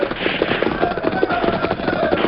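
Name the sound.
gunfire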